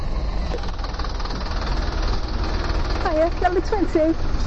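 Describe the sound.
The engine of a number 20 level-access bus idles at a bus stop with a steady, heavy low rumble throughout, and a voice briefly rises over it near the end.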